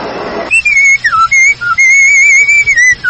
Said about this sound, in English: No wonder he's whistling. He's happy because he bought his 1957 Olds from Rose Oldsmobile, the oldest franchise Oldsmobile dealer in the Capital District.